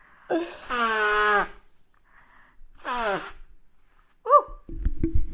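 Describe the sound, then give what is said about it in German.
Two loud, honking nose blows with a tonal, wavering pitch, separated by a short pause, then a brief squeak followed by soft rustling. “Und ich muss mir vorher noch mal die Nase putzen.”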